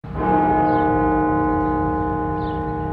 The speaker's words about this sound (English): The bells of the Washington National Cathedral were rung 1,000 times in memory of the 1 million Americans who have died from COVID-19.